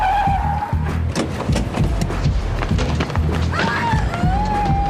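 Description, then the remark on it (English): A car brakes hard with a high, wavering tire squeal at the start and again near the end, over a rumbling engine and scattered thumps and knocks, loud. “Stop the car right here.”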